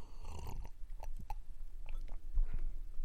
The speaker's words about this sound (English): I've got a new beverage du jour today. Never had this one on the program before. I took a sip of it just before I went on the air, but I'm going to give you a taste of it right now. Here you go.